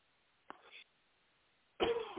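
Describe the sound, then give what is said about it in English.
A single sharp cough, dying away quickly, then a short quiet pause before a louder voice begins. “Excuse me, folks. I had a cough.”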